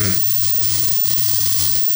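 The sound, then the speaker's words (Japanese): Ground meat sizzles steadily in a hot frying pan as it is stir-fried with tongs for taco rice, a loud, continuous crackling hiss that stays even throughout, with a low steady hum underneath and no voices. “この熱々にしたフライパンの上に、もう、いきなり、ひき肉。”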